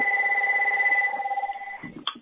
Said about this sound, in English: Well, nothing lacking with the ringer on your phone. Very loud.